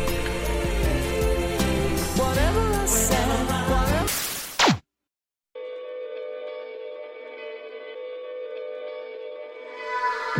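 A pop song plays for about four seconds with a sung melody over full backing, then drops out abruptly before a steady, sustained synth-like tone hums on alone.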